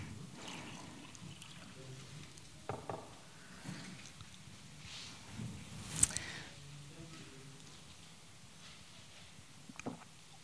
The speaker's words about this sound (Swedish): Jag ska bara ta lite vatten här. Ni som har lyssnat på mig ett par gånger vet att jag brukar behöva det.